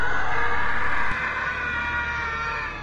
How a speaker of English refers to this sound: That scream, it came from the north wing.